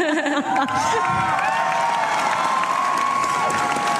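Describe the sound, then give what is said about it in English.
A large crowd, including Italian fans, cheers and claps steadily throughout for a title winner, a dense, loud roar of applause with whoops and shouts rising above it, with no pauses. “And what about the energy that you've picked up from this crowd over the week?”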